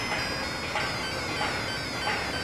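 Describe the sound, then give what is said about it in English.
A steady, loud rumbling roar of a passing train, with faint rhythmic swells about every second and thin high tonal whines running through it. “Oh, and another train about.”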